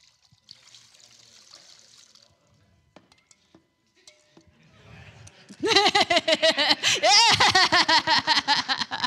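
Liquid is poured into a container: a soft hiss and scattered clinks at first, then a loud, steady glugging pour whose tone climbs in pitch as the vessel fills.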